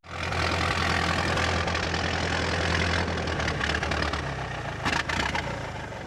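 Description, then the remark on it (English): A car engine idles steadily, a continuous low rumble with a broad mechanical hum, holding even for several seconds before wavering slightly near the end. No one speaks. “What are you driving? I'm driving my car.”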